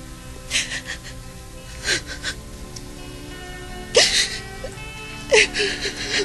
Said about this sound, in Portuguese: …. Você está chorando.